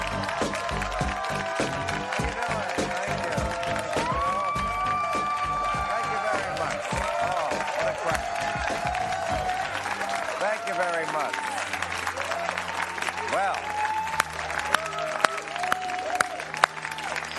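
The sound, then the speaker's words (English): Loud, sustained studio audience applause mixed with cheers and whoops at a Real Time monologue taping, a dense continuous roar of clapping that carries on steadily without pause for the whole stretch. “A great crowd, huh?”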